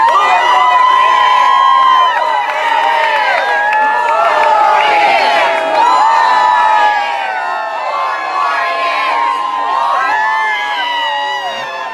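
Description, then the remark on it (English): A large crowd of Trump supporters at a September 3rd event for President Trump cheers and shouts continuously, a dense wall of many overlapping voices with whoops rising above the roar, loud and sustained for the whole stretch. “You've got a large crowd that you always see for the fired up, extremely passionate”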